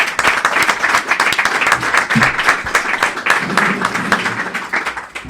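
An audience applauds steadily, a dense patter of many hands clapping at once, fairly loud, sustained for several seconds without pause, welcoming a guest up to join the hosts.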